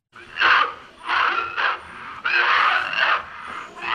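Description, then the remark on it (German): A man coughs in harsh, strained fits, four or so rough bursts in quick succession with a raspy, wheezing edge between them, fairly loud and with no talking; the sound of the 1969 short film "Der Mann, der hustet" (The Man Who Coughs) by Boltanski, which opens his exhibition at the Centre Pompidou. “Mit diesem Geräusch beginnt die Ausstellung. Man hört es, bevor man noch das Bild sieht. Ein Kurzfilm, Der Mann, der hustet, von 1969.”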